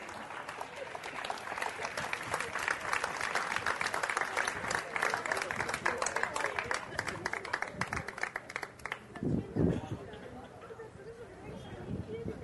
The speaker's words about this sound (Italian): Venga qua, le facciamo un bel applauso.